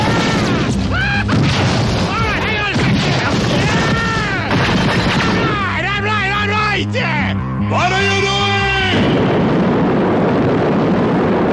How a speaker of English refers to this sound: Jeez. Watch it with the lightning bolts there.